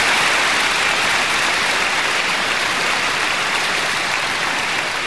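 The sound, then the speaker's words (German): Steady, dense clapping from a crowd fills the whole five seconds, a loud, even wash of hand claps with no voices or pauses. “Applaus.”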